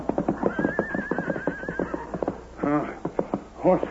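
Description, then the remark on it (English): A horse neighs loudly twice, a long whinny followed by a shorter one, over steady clip-clop hoofbeats. “Horse still alive.”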